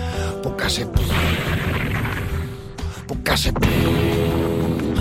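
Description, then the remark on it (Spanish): A loud explosion sound effect: a dense, roaring rumble with deep low-end boom, punctuated by a couple of sharper bursts, sustained and heavy for the full few seconds; an underground gas pipeline exploding beneath an oil refinery in Texas after a spark from a cigarette butt. “La explosión se oyó en todo Texas.”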